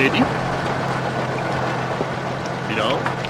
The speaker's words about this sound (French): Les premiers invités arrivent au manoir, accueillis sur le perron par Sir William et sa fille Isabelle. Jennings, le majordome, règle le balai des voitures des arrivants.